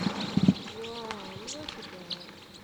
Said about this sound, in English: There's a whole big flock of crossbills in a Douglas fir right here foraging on combs.